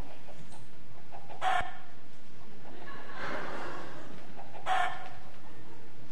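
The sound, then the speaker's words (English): A rooster crows amid chickens clucking, with two sharp, bright cackles standing out against a steady barnyard background; no one speaks. “And early into the morning, there would have been those little guys that wake everybody up. And any other place I've been to that's got barnyard animals, there would have been a bunch of chickens as well.”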